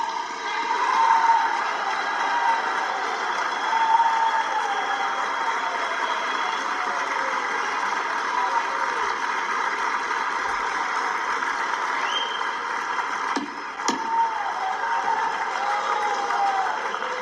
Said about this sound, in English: They kept clapping and she gaveled them off, too.